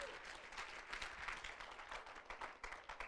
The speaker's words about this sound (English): Let's clap our hands and bless God for that one.